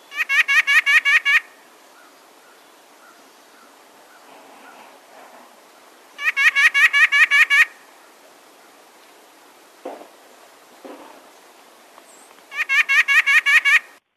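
A white-breasted nuthatch sings its spring song: three loud bursts of rapid, nasal, evenly repeated notes, each lasting about a second and a half, separated by quiet pauses with faint background noise.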